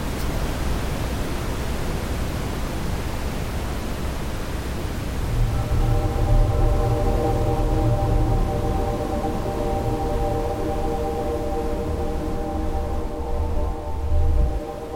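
A steady, loud wash of static-like white noise fills the whole stretch, joined midway by a deeper rumble and faint humming tones layered on top. No voices.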